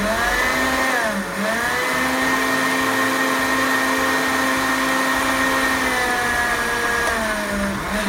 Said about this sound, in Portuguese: E já derrubo tudo isso aqui num liquidificador bem sequinho, olha. Agora eu vou bater. Vamos bater até ficar uma poeira lisinha, poeirinha mesmo.